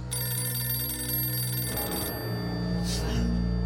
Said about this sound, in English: The phone. I like to screen my calls. Let's let the answering machine get it.